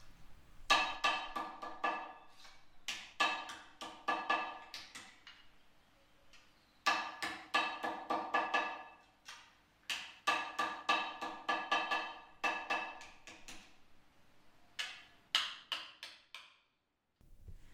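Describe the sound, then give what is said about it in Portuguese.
Sharp metallic hammer blows ring out as rectangles of cut iron sheet are shaped by hand around an anvil into cowbells, struck in quick bursts of several hits separated by short pauses, with no voices. “Com muita precisão, martelam-se folhas de ferro cortadas em retângulos. Moldam-se em torno a uma bigorna, como se fosse o braço de uma cadeira, até ficarem com a forma de um quase sino.”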